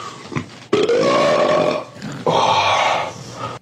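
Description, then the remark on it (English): A loud fart sounds out in two long, raspy blasts, each lasting over a second with a brief pause between them, and no one talks. “You think you can fart bigger than me?”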